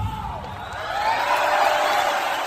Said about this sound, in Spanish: Aplausos para nuestra amiga.